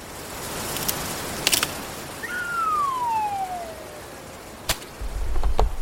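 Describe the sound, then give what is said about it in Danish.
A branch snaps off a pine tree in the wind: sharp, loud cracks punctuate a steady rushing wind, with a thin descending whistle sliding downward between them and a rumbling thud at the end. “En gren er knækket af, og fyrretræet har fået et hul.”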